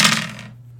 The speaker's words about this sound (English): Roll 3d20s and see how it goes. He's like, please, don't fuck me, dice.